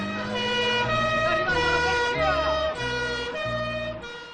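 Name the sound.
police siren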